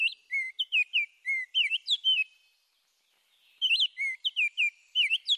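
A robin sings loud, clear warbling phrases of rising and falling whistled notes in two bursts separated by a brief pause, distinct with no other sounds.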